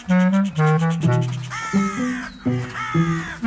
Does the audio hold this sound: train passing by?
no